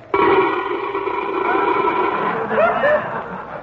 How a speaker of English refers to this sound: Oh, boy. What a night. Listen to that wind howl. And listen to that snowfall.